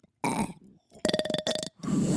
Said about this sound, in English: Yours sounded like a normal burp.